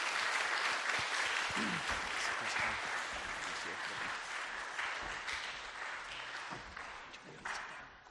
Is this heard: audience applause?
yes